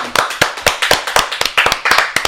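Hands clapping loudly in a brisk, slightly uneven rhythm, about a dozen sharp claps in quick succession with no voices.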